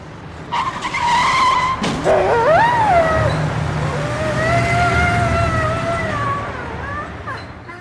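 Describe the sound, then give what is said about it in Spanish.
A loud tire screech from a skidding car that swerves toward and hits a dog crossing the street, quickly joined by the dog's sharp, high yelps of pain that rise and fall as the squeal fades out. “Hoy intenté cruzar la calle por donde pasan los coches y uno me atropelló.”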